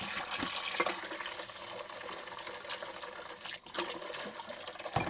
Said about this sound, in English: things here which I didn't wash up last night that need to be quickly dealt with in the washing machine, in the washing bowl. You just cover them with hot water. The water is very hot, fortunately.